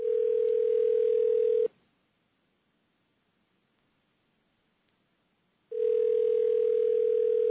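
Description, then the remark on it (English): A loud, steady low-pitched telephone dial tone, on another phone line after pressing 9, hums over a faint line hiss, cuts out for about four seconds of silence, then returns unchanged. No one speaks. “Now I'm going to dial 1-844.”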